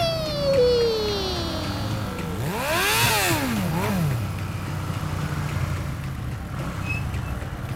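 A car engine on a race track revs up sharply and falls back down in a couple of quick swells, with a lower mechanical rumble running steadily underneath and no voices.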